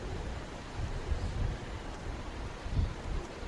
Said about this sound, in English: We now hear the beautiful song of the sea. Here at Prabhascheta, three holy rivers all converge to meet one another within the sea. The river Saraswati, the river Hiranya, and the river Kapila.